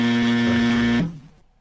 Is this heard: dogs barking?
no